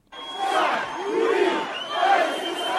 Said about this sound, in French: À peine les premières estimations connues, la foule des partisans du nouveau président a envahi l'avenue Bourguiba en plein centre de Tunis. Beaucoup de jeunes, des familles avec leurs enfants venus fêter la victoire de leur candidat